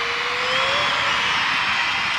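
A basketball arena crowd at an Alabama game cheers during a free throw in a loud, steady roar that holds level throughout, with a faint rising whistle-like tone early on and no one speaking over it.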